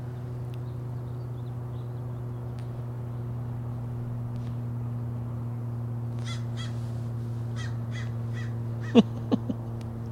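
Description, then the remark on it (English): A crow caws in a short series of harsh calls near the end, the last few loud, over a steady low mechanical hum with fainter calls just before. “The crow sees me through the lattice above me. And he flies off because he thinks I'm a big-ass bird.”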